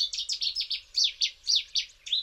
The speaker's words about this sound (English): definitively identified the Chetty's warbler as the reclusive author of the familiar song.